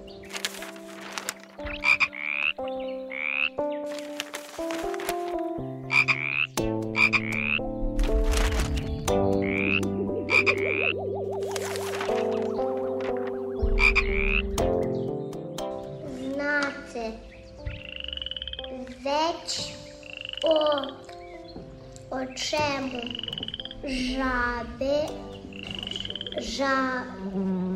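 A chorus of frogs croaks steadily for almost half a minute, with many overlapping, rhythmic calls, some deep and some higher and reedy, fairly loud, with no talking.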